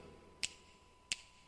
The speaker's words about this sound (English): Come on, everybody, and snap your fingers now.